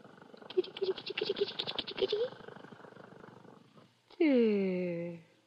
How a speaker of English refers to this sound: Listen to her purr. So little and soft.